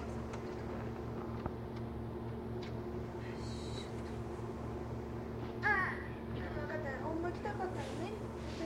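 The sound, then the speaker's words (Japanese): A crow caws in a few short, harsh bursts partway through while rain falls outside, set against a constant low hum with faint murmuring voices in the background. “鳥とか大好きなんです ね。うん、ガッカガッカ言ってましたね。”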